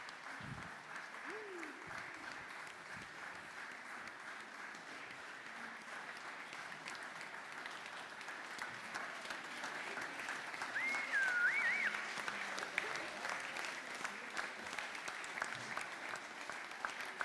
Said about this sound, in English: And then, godparents, if you'd like to go back to the pews, and parents, if you'd like to walk down your children down the aisle so that everyone can get a good look and another little clap for them as they go.